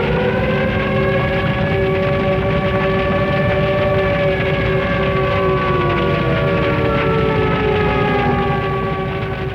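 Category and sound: signal or alarm, air raid siren wailing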